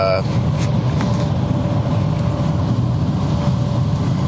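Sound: road traffic heard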